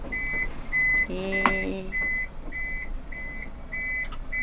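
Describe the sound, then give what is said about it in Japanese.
A steady series of loud, evenly spaced electronic warning beeps repeats throughout as a motorized stretcher lift raises its arm and loads a stretcher into a care vehicle, with a brief mechanical whir and clunk partway through. “お、車の中に入ります。ドレッチャーが入ります。”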